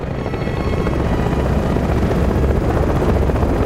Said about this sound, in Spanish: El helicóptero aterriza cerca de dos barracones metálicos.